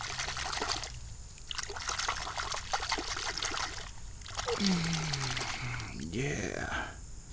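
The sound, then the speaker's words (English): Water trickles and splashes as a small red golf ball is rinsed and swished around by hand, with dribbling and light splattering and a brief low tonal sweep midway. “I need to wash this red one off.”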